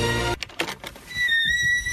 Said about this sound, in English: I hit the crescendo right at the moment that the squeaky gate makes the same sound as Jurassic Park, which was right here.